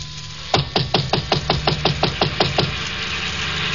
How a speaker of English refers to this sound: I got to Chinook's and it was closed. I knocked on the door.